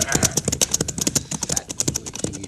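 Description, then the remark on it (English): Horse hooves clip-clop in a quick, steady trotting rhythm, each sharp knock following closely on the last, moderately loud throughout. “Get in your horse.”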